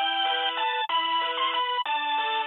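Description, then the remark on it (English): A tinny synthesized rendition of Greensleeves plays as telephone hold music, steady chiming tones in a looping phrase that briefly cuts out twice, loud with no voices. “And after listening to this synth version while hanging on the phone, you too may experience a pain in the neck.”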